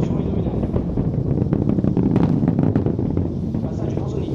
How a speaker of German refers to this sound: Fast eine halbe Minute dauert es, bis auch der Donner der gewaltigen Treibladungen über fast 8 Kilometer bis zum nächstgelegenen Beobachtungspunkt außerhalb eines weiten Sperrgebiets herübergerollt ist.